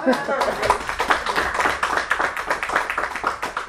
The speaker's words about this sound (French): Je vous applaudis.